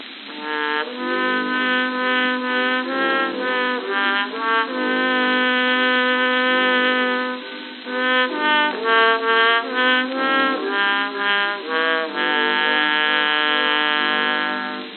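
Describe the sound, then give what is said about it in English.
A trombone plays a slow, flowing melody of long, sustained notes with a full, brassy buzz, heard alone and fairly loud, with the thin, narrow sound of an old recording. “And now to the rich, resonant tones of the trombone.”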